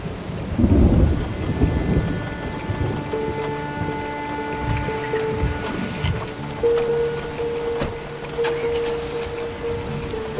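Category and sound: nature, rain with thunder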